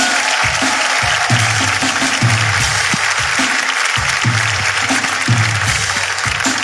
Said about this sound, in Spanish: Ok, hermano, el público hoy está exquisito, el último programa del año, así que esto es Tengo Algo Que Decirte. Un fuerte aplauso.